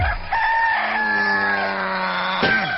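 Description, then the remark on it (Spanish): A rooster in Córdoba crows loudly, one long drawn-out cock-a-doodle-doo that rises and holds before breaking off, with no talking around it. “En Córdoba te despiertan los gallos.”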